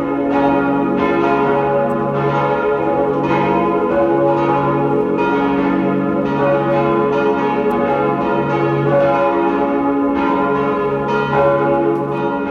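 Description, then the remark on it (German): Several large church bells of the baroque parish and pilgrimage church on the Sonntagberg, a 700-metre hilltop near Waidhofen an der Ybbs in Lower Austria, peal together at 12 noon in a full, continuous ringing, their overlapping strikes blending into a rich, resonant wash of tone. Loud and steady throughout, with no voices. “Sie hören die Glocken der Pfarr- und Wallfahrtskirche Sonntagberg in Niederösterreich.”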